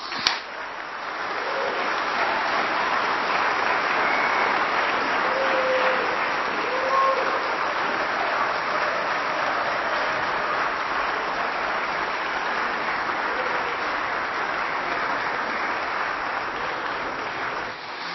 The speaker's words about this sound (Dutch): We willen jullie bedanken voor de aanwezigheid bij deze prachtige dienst. We willen de band ook bedanken met een heel groot applaus.